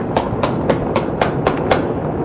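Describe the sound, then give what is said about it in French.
Rapid, evenly paced pounding of fists on a door, about seven sharp knocks in quick succession over a steady low rumble of background noise, with no voices. “On frappe, on tape, on crie.”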